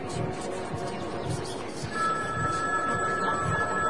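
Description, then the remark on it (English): A telephone rings with a steady, high electronic tone that starts partway through and continues to the end, set against a busy, rumbling background with rhythmic low thumps. “I'm trying to answer it, but it just won't quit ringing.”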